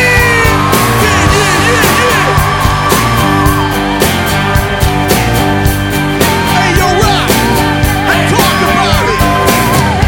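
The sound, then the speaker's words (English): A live concert crowd screams and whoops loudly and continuously when the performer tells them to scream, many voices overlapping, while a band keeps playing underneath with steady, pounding drum hits. “Say hell yeah. Now scream.”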